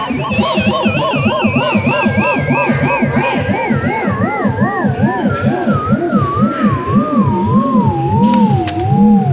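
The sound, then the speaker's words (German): An electronic sound bench built by Berlin artist Niklas Roy sounds when touched, closing an electric circuit. Its sound changes with how much of a hand touches it. It gives off a loud, continuous buzzy tone whose pitch wobbles up and down in a steady rapid warble while slowly drifting lower, with no one speaking. “dann ist der Stromkreis geschlossen und dann erklingt diese Bank.”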